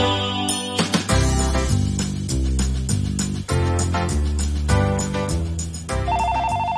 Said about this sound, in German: Das Telefon klingelt.